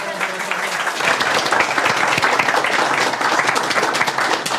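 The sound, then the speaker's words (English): A crowd applauds steadily, a dense wash of many hands clapping at once that holds a fairly even, loud level for the whole stretch, with no voices standing out. “You can clap. It's okay.”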